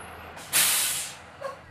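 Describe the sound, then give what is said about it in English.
A yellow school bus carrying elementary school kids from Hendry County arrives on Sanibel Island in Southwest Florida. Its air brakes let out a loud, sharp hiss that fades over about a second, followed by a brief fainter whistle-like tone. No voices are heard. “A yellow bus filled with elementary school kids from Hendry County just arrived on Sanibel Island.”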